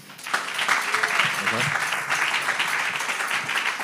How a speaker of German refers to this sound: Applaus für die beiden nochmal bitte.